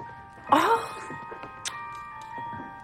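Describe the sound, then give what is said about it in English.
Electronic bell decorations on a mantle, just switched on and lighting up, chime with steady, sustained ringing tones, opening with a brighter jingling burst before settling into a soft, continuous hum of overlapping bell notes. “Justin turns on the bell decorations on the mantle, and they light up.”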